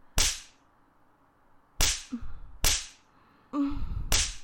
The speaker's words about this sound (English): Daddy's big, strong hand just slapping away at my cute ass.